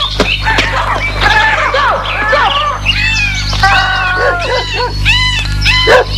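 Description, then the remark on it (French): A dog barks again and again in quick, uneven bursts, loud, over a steady low background hum with no talking. “Le chien s'éloigne, la queue basse.”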